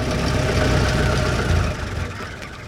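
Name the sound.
truck engine running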